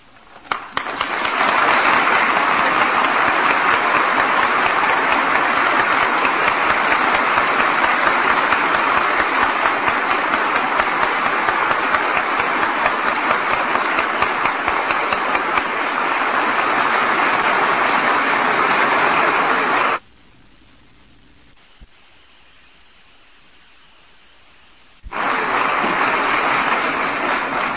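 A large audience applauds in a dense, steady roar of clapping that holds loud for about twenty seconds, cuts to near silence for several seconds, then bursts back in.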